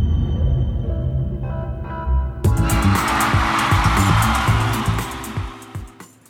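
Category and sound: vehicle, car engine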